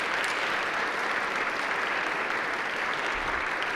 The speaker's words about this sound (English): So at the Methodist Church, I thought it very appropriate to thank Ray and to thank Joyce by applause, and I would like for you to do the same thing. Would you help me say thank you to Ray and Joyce for this?